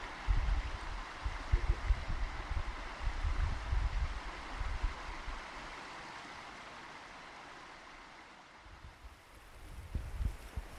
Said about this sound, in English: Yeah, we've not seen anyone, really. It's nice you can't hear anything apart from just the water, really.